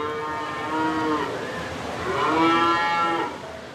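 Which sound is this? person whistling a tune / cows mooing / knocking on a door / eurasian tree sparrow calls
cows mooing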